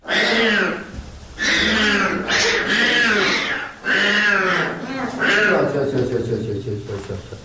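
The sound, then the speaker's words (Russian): Four newborn white lion cubs, born on the evening of 2 April at the Taigan lion park in the Belogorsk district of Crimea, cry in a loud, continuous string of high, wavering mewls, several calls overlapping with brief gaps between bursts. “И я думаю, что нашим слушателям будет интересно послушать, как эти 4 белых львят звучат.”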